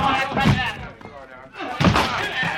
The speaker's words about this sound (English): All right, everybody, we've got to break that door in.